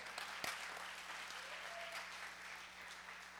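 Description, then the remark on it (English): An audience breaks into steady applause, dense overlapping claps at a fairly loud, even level for the whole stretch, with no voices standing out. “You can clap on that.”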